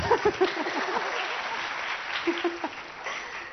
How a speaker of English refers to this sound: Round of applause to me.